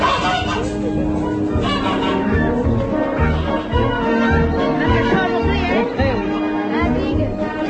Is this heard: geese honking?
yes